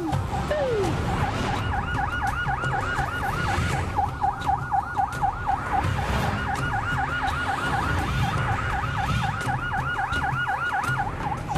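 An ambulance siren wails continuously in fast rising-and-falling sweeps, loud, over a rumble of road traffic with no talking.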